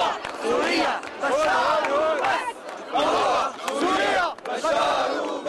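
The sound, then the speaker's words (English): A large crowd of Assad supporters in Damascus cheers and chants, greeting Russian Foreign Minister Sergei Lavrov, in loud, rhythmic bursts, many voices rising and falling together in repeated surges with brief dips between them. “On Tuesday, Russian Foreign Minister Sergei Lavrov was greeted by cheering crowds of Assad supporters in Damascus.”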